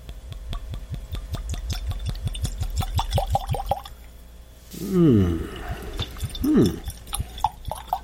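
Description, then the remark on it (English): Whisky glugs from a flask-style bottle with a wooden peg stopper into a glass in a basement, a quick, steady run of gurgles that rise in pitch for about four seconds, followed by brief murmured voices. “Oh, I may have overpoured that.”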